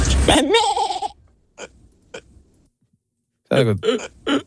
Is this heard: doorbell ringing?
no